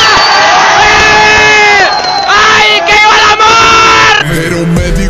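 A loud crowd cheers and shouts for a couple in love for several seconds, many voices whooping and yelling together in a continuous roar, with possible clapping mixed underneath before the din shifts abruptly near the end.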